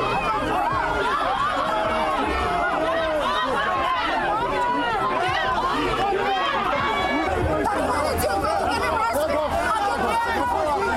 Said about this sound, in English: The police have arrested someone. People are shouting shame. He's on the ground.